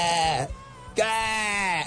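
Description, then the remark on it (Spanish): A person imitates the call of a newly hatched duckling that sounded like a sheep, two drawn-out wavering bleats with a brief pause between them, fairly loud. “Parecía una oveja, ¿oíste?”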